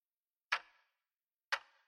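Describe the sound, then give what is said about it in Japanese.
Two soft knocks on an outer wooden door, about a second apart, each a short hollow tap with a brief ringing decay, then quiet. No one speaks. “この時、外の戸をコトコト叩く音がしました。”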